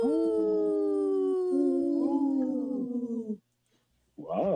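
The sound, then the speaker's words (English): Several wolves howl together in a pack chorus, long overlapping rising and falling tones sustained for about three seconds, then a brief silence before another harmonic howl begins. “Wow, that was a good pack howl, you guys.”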